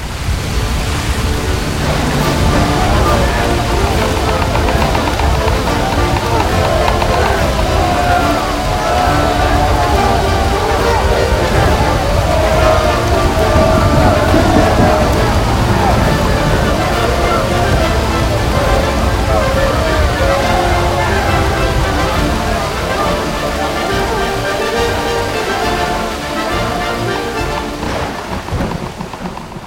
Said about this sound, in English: Like the storm had lasted forever. Did it ever stop? Yes, finally, after 3 days of mobbling, the clouds spread apart and the moon shone down on the exhausted passengers.